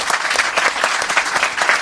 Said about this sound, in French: Voilà, applaudissements pour Mélissa.